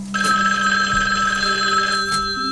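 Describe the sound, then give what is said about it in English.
A telephone rings with an incoming call, a steady electronic tone with bright stacked harmonics sustained for a couple of seconds, fairly loud over a low background hum, no voices. “So with Xanth dead and no leads on where this Zills might be, we were about to head over to Amalgamated Technologies to try to question James Moore, CEO, when we received an unexpected phone call.”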